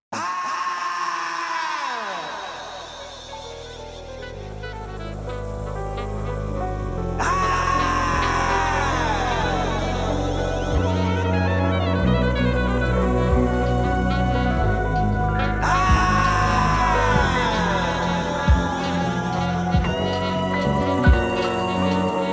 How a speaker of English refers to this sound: The track begins with an agonizing scream. Beneath the screams, we hear saxophone flourishes